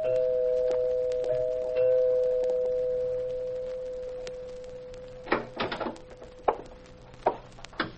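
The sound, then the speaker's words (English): A doorbell at a home rings with one long, steady tone that slowly fades, followed by a few sharp, irregular clunks like a door being handled. No one speaks. “He'd just stretched that long, lanky body of his out on the couch when the doorbell rang.”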